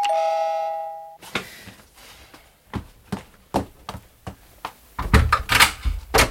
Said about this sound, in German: Ich hatte ihr gerade etwas aus meinem Krokodilbuch vorgelesen, als die Glocke an der Haustür läutete.